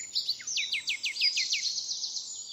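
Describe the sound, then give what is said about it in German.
A nightingale sings a fast, clear trill of about a dozen sharp, repeated descending notes, bright, over a faint hiss of background ambience. “Schon bei Plinius gilt die Nachtigall als das ganz, ganz große Vorbild für die Musik.”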